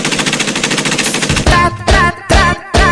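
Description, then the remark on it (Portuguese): A rapid, steady burst of machine gun fire rattles for over a second, then gives way to four heavy rhythmic blasts with a tonal, horn-like edge, loud and punchy. “Pega a metralhadora.”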